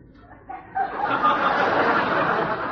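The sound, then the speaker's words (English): A person does a loud, nasal imitation of a duck quacking, a rough continuous squawk that starts abruptly after a brief pause and carries on unbroken. “Duke, not duck.”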